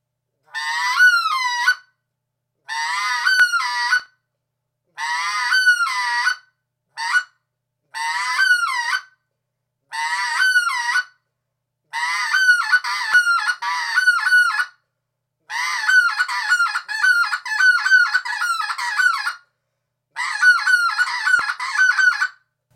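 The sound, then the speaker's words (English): A goose calls repeatedly in loud, clear bursts, first separate yodeling honks with a rising-falling lilt, then longer runs of quick clucking syllables, with no other sounds. “The back half of the yodel is the same as the cluck syllable.”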